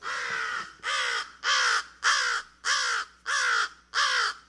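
Seven loud, harsh crow caws in a steady, evenly spaced series, each rasping and drawn out with a slight downward slide, with no voices.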